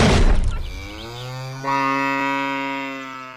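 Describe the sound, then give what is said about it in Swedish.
A sharp, noisy rush of sound opens as a strapped-up cow is launched at the press of a button, then the cow lets out one long, loud, drawn-out moo that swells partway through and holds steady to the end. No one speaks. “Och medan vi pratat har du passat på att spänna upp en ko här bakom oss.”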